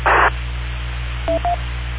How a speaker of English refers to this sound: Hey, I'm listening to the courtesy tones here, and I think that when I stop transmitting, I hear 1 beep, and when you stop transmitting, I hear 2, but I'm not sure.